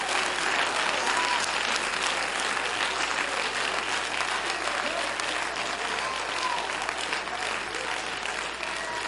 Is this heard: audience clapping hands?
yes